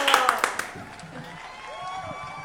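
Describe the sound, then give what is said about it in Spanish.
A brief burst of scattered hand claps, four or five quick slaps, fades within a second and gives way to faint voices talking in the background. “Aplausos, ¿ya? Aplausos.”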